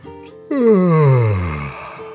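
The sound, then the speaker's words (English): A single drawn-out human yawn, starting abruptly and sliding downward in pitch into a long, breathy moan that fades gradually, fairly loud with no speech. “As they finished eating, Max yawned,”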